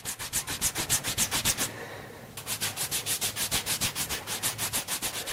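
Fast, steady rubbing strokes, a soft brushing swish repeated about three times a second, pausing briefly after the first stretch before resuming at the same brisk rhythm. No one speaks.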